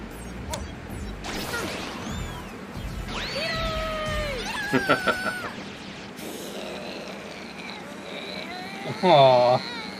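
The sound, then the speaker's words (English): A cat meows a few times, short rising-and-falling cries that stand out near the end, mixed in with voices and some clattering, knocking sounds. “Yeah, that's the first instant of cat Toro, as they call it, in this community.”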